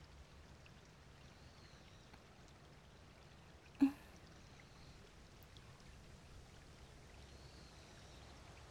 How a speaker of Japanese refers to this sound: こうやって川のせせらぎを聞いていると、心が落ち着いてくるよね。